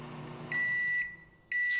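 A microwave oven hums briefly, then gives two clear, loud electronic beeps, each about half a second long with a short pause between them. No one speaks.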